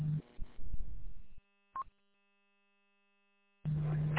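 A loud, steady low-pitched PL tone hum rides under bursts of noisy, band-limited radio audio from an XTS 2500 radio, with a brief chirp between transmissions and a pause of silence before the humming signal returns.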